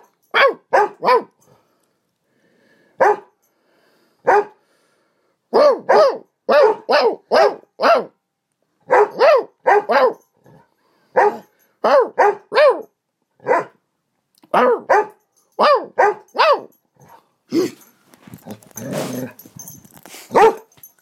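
A female dog barks repeatedly and insistently at a person who has an arm around someone, sharp clustered barks in bursts with brief pauses, ending in a rougher, noisier stretch of barking.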